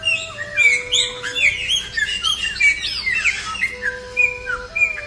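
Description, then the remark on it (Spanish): A blue bird sings a busy, continuous stream of bright chirps and whistled notes, with a steady low hum running underneath. “Cuenta la leyenda que en ese momento un pájaro azul salió de la montaña de flores cantando Chowí, Chowí.”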